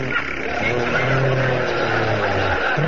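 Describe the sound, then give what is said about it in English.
A person makes a loud, continuous revving engine noise with their mouth, a sustained buzzing drone imitating a motorcycle in place of a sound effect, lasting the full few seconds. “That's supposed to be a motorcycle. We forgot to bring a sound man.”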